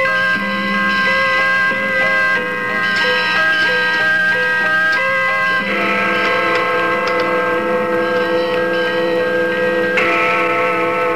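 A steeple clock strikes two on Christmas Day, its deep bell tones ringing out loud and full, each stroke hanging in a long shimmering resonance that blends into the next, with no voices.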